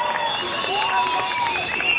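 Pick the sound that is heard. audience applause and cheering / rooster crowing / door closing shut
audience applause and cheering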